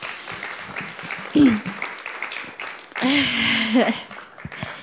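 A church audience applauds steadily for several seconds after a woman shares her story, a dense patter of many hands, with a couple of voices briefly cheering or whooping over the clapping.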